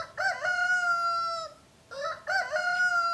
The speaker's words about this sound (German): Zur Begrüßung schmettert Hahn Tommy erstmal einen raus.